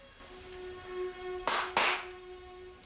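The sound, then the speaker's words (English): A woman makes two sharp hand claps in quick succession to get a baby's attention, crisp and fairly loud, ringing out over a steady, faint humming drone that continues underneath. “Neither does he respond to her clap.”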